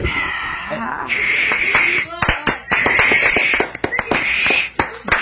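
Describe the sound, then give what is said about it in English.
A studio crowd hisses and boos in sustained waves, loud, broken by scattered claps and a few chuckles. “Did I detect some hisses and boos in the crowd?”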